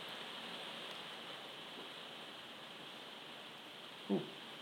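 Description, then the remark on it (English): Soft, steady rain hisses continuously in the background, fairly faint and even throughout, with a single brief low knock near the end and no voices. “You might be hearing me now. The rain's gone down.”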